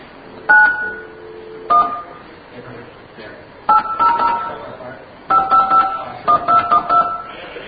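Telephone touch-tone dialing: a series of clear beeping tones entered in irregular bursts, a few single presses and then quicker runs of digits, over a muffled, noisy line background.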